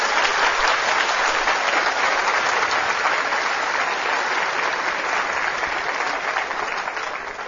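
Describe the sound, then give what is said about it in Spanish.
An audience claps for Jesus during a sermon, steadily for several seconds, a dense, loud wash of applause that holds even throughout and tapers slightly at the end, with no voices standing out. “Aplauso al que es la vida, por favor.”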